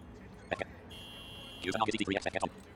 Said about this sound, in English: So my vehicle is beeping right there.